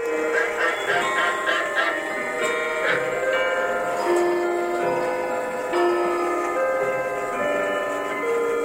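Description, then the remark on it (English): Many clocks tick at once in a clock shop in Chehalis just before noon, their overlapping ticks forming a steady, busy patter, with bright ringing chime tones sustaining and layering over the ticking throughout. “He walked into a clock shop right before noon.”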